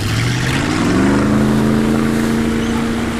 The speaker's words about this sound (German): So, der Außenbordmotor läuft. Wichtig übrigens, dass man hier den kleinen Benzinhahn auch aufdreht. Sonst geht er nach ein paar Sekunden aus.